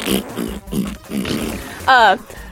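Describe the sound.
A man talks for a couple of seconds, then a short, loud, buzzing fart noise blurts out on its own near the end, wavering in pitch.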